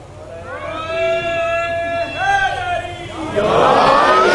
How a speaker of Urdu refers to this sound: دوبارہ لگاؤ بچے، بیٹا دوبارہ نعرہ لگائیں.